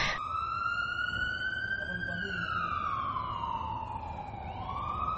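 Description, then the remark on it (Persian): An ambulance siren wails loudly, its long tone gliding slowly up and then down over a steady low rumble of background noise. “اینقدر حال من وخیم شده بود، اینقدر بدحال بودم که با آمبولانس تماس گرفتیم.”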